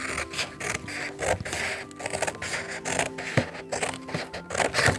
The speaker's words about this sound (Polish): I jajowaty kształt. Tak. Mhm. Wielkie jajo. Dobra. Czy mam to wyciąć? Tak.